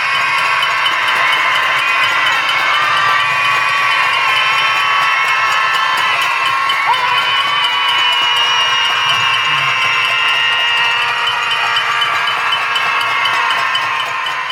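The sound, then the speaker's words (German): A large crowd of women at a protest against violence against women on Minoritenplatz in Austria screams in grief and anger, continuously and loudly, a dense sustained wall of high-pitched voices that barely wavers, with no clear speech standing out. “Die Frauen auf dem Minoritenplatz schreien. Aus Trauer vor Wut.”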